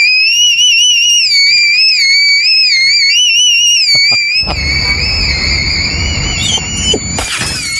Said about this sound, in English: And so I taught myself whistle tones and things. Whistle tones. Now, what is whistle tone? What are whistle tones? It's the tone.